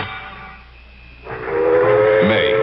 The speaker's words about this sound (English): 1855. The tightly guarded train from London roared toward the English Channel, filled with a fantastic shipment of gold.